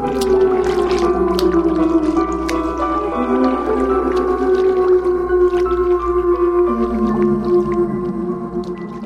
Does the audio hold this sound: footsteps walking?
no